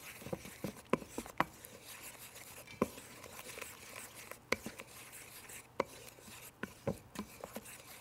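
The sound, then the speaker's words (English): A utensil scrapes and taps against a bowl while stirring a thick batter of chickpea flour and water, with soft irregular clicks and knocks over a low, steady rubbing sound; no one speaks. “We're just going to start with a little bit when we stir chickpea flour, just so it doesn't get too lumpy.”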